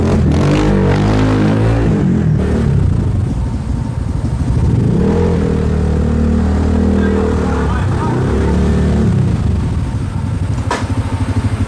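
A motorcycle engine revs up and down in two swelling bursts, its pitch rising and falling over a steady loud rumble of idling and street noise.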